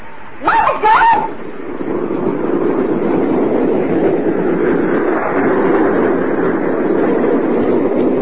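A southbound night train pulls out of the station, opening with a brief high whistle-like blast before a steady, loud rumbling roar of the moving train fills the rest of the scene.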